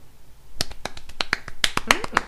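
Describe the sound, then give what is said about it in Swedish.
A soft golf clap: about a dozen light, crisp claps in a loose, uneven rhythm, polite rather than enthusiastic, with no voices over them. “Golfapplåd.”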